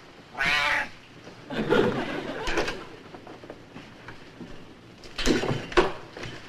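A cat meows several times in a row, drawn-out, wavering cries with a pause in the middle, clear against a faint background.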